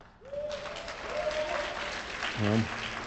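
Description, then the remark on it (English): An audience at a political debate applauds steadily throughout after a candidate's call to abolish the U.S. Department of Education, a dense, fairly loud wash of clapping with a voice faintly audible beneath it. “I know you had some applause lines in there that took some of your time”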